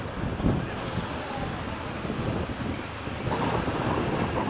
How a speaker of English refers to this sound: Windy around this corner. It is, a bit of a wind tunnel.